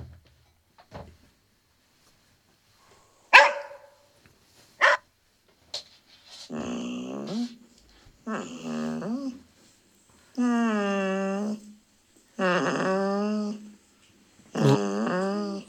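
A few sharp knocks and clicks, then a dog barks and growls in five drawn-out, fairly loud bursts separated by short pauses.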